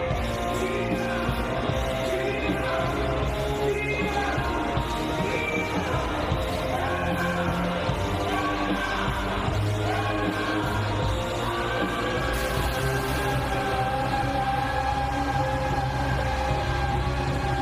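A live rock concert performance with the audience, recorded on 9 September 2023 at UBS Arena in Belmont, New York: a dense, steady wall of amplified music with sustained tones and crowd noise mixed in, loud and unbroken throughout.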